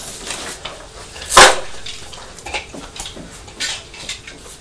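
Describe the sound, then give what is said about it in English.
Crisps being crunched: one loud, crackly bite followed by several softer, scattered crunches over a low background hiss, with no voices. “Oh, those crisps sound nice and crunchy.”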